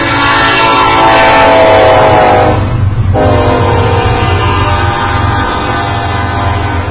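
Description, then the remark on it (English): A coal train rumbles past close by at a train crossing, its horn blaring loudly for a couple of seconds before fading into the steady, heavy roar of rolling cars. No one speaks. “That's a coal train.”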